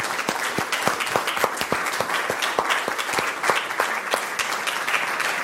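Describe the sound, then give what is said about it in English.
An audience applauds a discussion panel, many hands clapping at once into a dense, even patter of sharp claps that holds at a fairly loud level throughout, with no voices standing out. “Let's give a good hand to our panel.”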